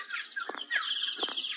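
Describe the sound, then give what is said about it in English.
Birds chirp and twitter continuously, with overlapping high tweets and quick rising-and-falling calls at a moderate, steady level, and no voices. “We'll go around and see the bird.”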